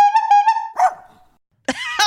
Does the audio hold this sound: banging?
no